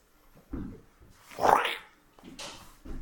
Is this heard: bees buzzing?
no